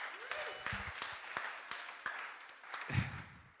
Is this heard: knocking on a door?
no